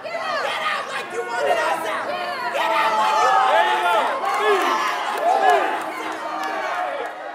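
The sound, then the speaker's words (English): A loud, agitated crowd at a Los Angeles City Council meeting in City Hall shouts, screams and curses in multiple languages at councilmembers Kevin de León and Gil Cedillo, many raised voices overlapping in a continuous angry din that swells and holds for several seconds. “Kevin DeLeon and Gil Cedillo walk in, and people scream and curse at them in multiple languages.”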